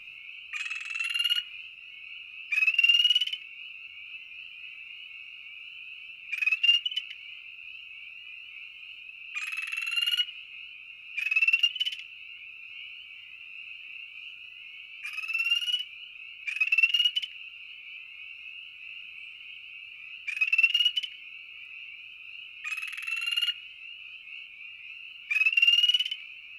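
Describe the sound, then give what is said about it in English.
Two male spring peepers trading aggression calls: a steady high-pitched trill throughout, with louder, buzzier bursts breaking in every couple of seconds. The calling is clear, with no voices present. “Upon hearing this call for the first time, some people think they're hearing a different species of chorus frog.”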